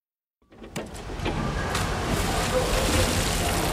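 After a brief silence, a steady rush of water starts up and keeps going, a fairly loud wash of sloshing and splashing as someone swims in warm water.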